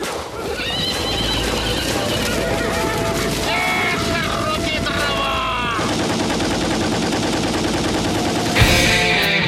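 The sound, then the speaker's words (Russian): Rapid machine gun fire from a young machine gunner rattles in dense, continuous bursts, mixed with loud horse whinnies and clip-clopping hooves in a busy, chaotic battle scene, with voices faintly in the mix. “Застрочил из пулемета, пулеметчик молодой.”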